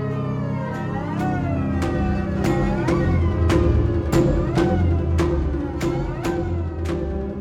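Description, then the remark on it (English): An upright bass slides up and down its neck in repeated swooping glissandi that rise and fall, mimicking a revving motorcycle engine for a film music cue, with sharp rhythmic string attacks about twice a second, loud. “So the first idea I had was to do it with an upright bass. Just glistening up and down the neck, kind of revving.”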